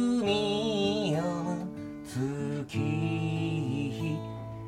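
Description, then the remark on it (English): A closing-time song plays steadily and fairly loudly in a bar in Japan, with a sustained, gliding melody over full harmonies, and no one talking over it. “There it is, the song, which means, very politely, we're being thrown out of this bar.”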